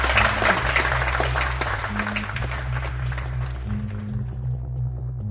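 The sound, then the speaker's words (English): An audience claps steadily for Ken Doctor at the close of a discussion, in dense, crackling applause that gradually fades out over a few seconds, while a low, sustained musical tone plays underneath and carries on after the clapping dies away. “I'm sure we could go on for at least a couple of hours more, but let's end this on this optimistic note, and let's give a warm round of applause for Ken Doctor.”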